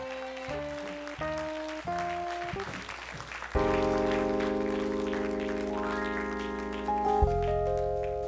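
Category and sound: crowd, audience hand clapping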